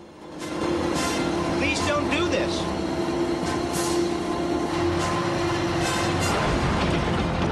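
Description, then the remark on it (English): A propeller plane lands bumpily on a steep, narrow strip of soil on a mountain and draws to a halt: a loud, steady engine drone with a low humming tone, broken by scattered rattles and thuds as the wheels jolt along, continuing without pause. “The plane lands bumpily and draws to a halt.”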